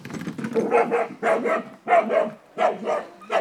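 A dog barks steadily and repeatedly, about five rough, fairly loud barks in a quick rhythm, muffled from inside an artificial burrow during an earthdog hunting test with a fox, with no talking.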